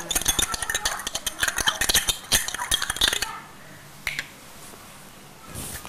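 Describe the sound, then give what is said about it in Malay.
A spoon clinks and rattles against dishes in a rapid, busy flurry of sharp taps for about three seconds, then things go quiet apart from a couple of lone clinks. “Ini sendok tadi. Sendok.”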